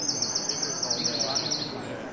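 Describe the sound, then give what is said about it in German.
Birds sing in a park, a rapid run of high, bright chirps trilling for about a second and a half over a steady bed of murmuring background noise. “Wo will ich zuhören? Den Vögeln im Park?”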